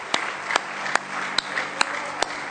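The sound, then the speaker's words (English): A church audience claps hands in praise during a morning worship service, a dense, steady wash of applause with sharper, louder claps landing in an even rhythm about twice per second. Nobody speaks. “Now let's give him another good hand clap of praise this morning.”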